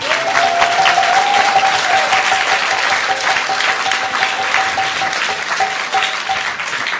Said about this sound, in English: Give him a big applause.